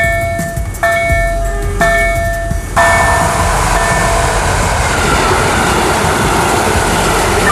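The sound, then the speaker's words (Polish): While crossing a railway level crossing, its warning bell rings in steady, evenly spaced strokes, then a train roars past, its loud rushing rumble drowning out the bell and filling the rest of the scene. “Przejeżdżamy przez przejazd kolejowy.”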